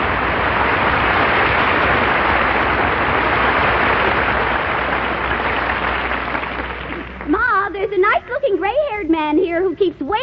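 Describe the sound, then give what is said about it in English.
A dense, steady wash of clapping from an audience after a sung performance fills about seven seconds, then fades out as a person begins speaking over the last few seconds. “And they applaud.”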